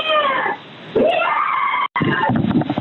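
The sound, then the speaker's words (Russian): A woman screams behind a door in long, anguished, high-pitched wails that rise and fall, broken by a brief pause, heard through a thin, telephone-like line during a call to emergency operator 112, with no speech over it. “Девушка, вы слышите, как она орет там за дверью?”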